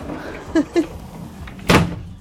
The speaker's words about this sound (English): I'm sure my neighbors wonder why I'm walking around slamming doors and making noises